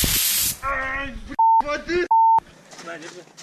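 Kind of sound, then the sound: sound effect, pepper spray being sprayed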